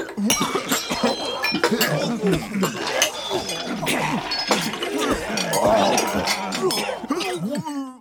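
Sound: crowd of people gagging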